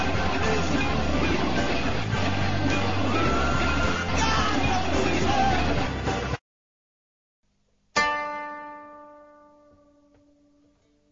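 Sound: crowd yelling and cheering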